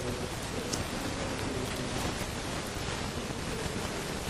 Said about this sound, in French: Il pleut beaucoup.